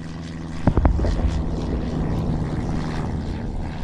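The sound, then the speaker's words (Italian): A propeller plane over Rimini in wartime drones steadily with a low, throbbing engine hum that fills the whole stretch, broken early by a few quick thuds or knocks, and no voices. “13 anni dopo dal cielo arriva il cielo è portatore di morte, gli aerei sono portatori di distruzione.”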